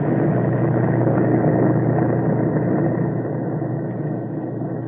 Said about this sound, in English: Mid-afternoon, from the fields of China, the B-29s roared into the skies, headed for Japan.